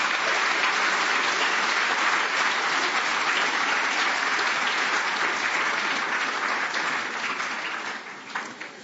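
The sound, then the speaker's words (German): A crowd applauds steadily after a talk on malaria therapy, a dense wash of clapping that holds strong for several seconds before gradually thinning and fading toward the end. “Der Applaus hat schon gezeigt,”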